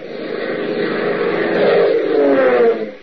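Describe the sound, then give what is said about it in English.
Heavy propeller engines of a massive DC-4 cargo transport plane drone loudly and steadily as it flies through an overcast night sky, a thick continuous roar that swells slightly before easing off near the end. “Its engines thundering a mighty song of power, a massive DC-4 cargo transport roars through an overcast night sky, carrying six men to a deadly rendezvous.”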